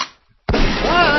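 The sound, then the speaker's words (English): After a moment of near silence, a single sudden, loud gun blast erupts from a loaded weapon accidentally fired by a 98-year-old woman, and its heavy, roaring boom carries on undiminished to the end. “Whoever the gun training guy handed her a loaded weapon and she accidentally pulls the trigger and the weight of the blast almost knocks this 98-year-old woman over to the side.”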